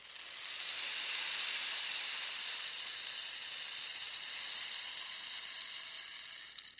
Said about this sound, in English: We use the rain stick at the beginning of each recording to let you know we're about to start our exploration. It's a signal telling you it's time to pay close attention to what's happening on the inside of you.